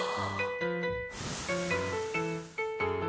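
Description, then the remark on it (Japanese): A person imitates blowing out the candles on a birthday cake with one strong, breathy puff of air that fades out, heard over steady tuneful background music. “3、お誕生日ケーキのろうそくを吹き消す様子。”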